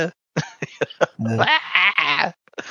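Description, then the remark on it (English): A run of short, sharp bursts leads into the Wilhelm scream: a loud, high, wavering cry lasting about a second, then a brief trailing sound. “Now we know we're dealing with high art because we've got the Wilhelm Scream.”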